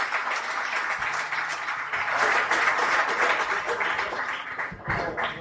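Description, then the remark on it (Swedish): A crowd applauds steadily for several seconds for the riders who got through an adventure at Islona, a dense, loud wash of many hands clapping at once, swelling slightly midway and holding without a break. “Vi ger de här killarna en stor applåd för att de tog sig igenom det här äventyret på Islona.”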